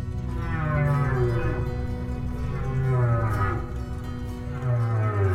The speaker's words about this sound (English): Ever since … was released in 1970, commercial whaling has been banned, and humpback whales have steadily come back because people heard their voices calling out so similar to our own.